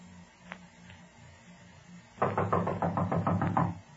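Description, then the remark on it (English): A rapid series of about ten firm knocks on the wooden front door of a building, loud, in a steady rhythm after a quiet start with a couple of faint taps. “You go to the door and knock on it.”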